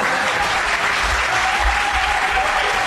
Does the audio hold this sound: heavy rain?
no